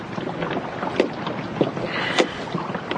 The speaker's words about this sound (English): Look, sit still. I'll row you round there.